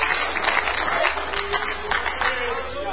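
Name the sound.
audience clapping hands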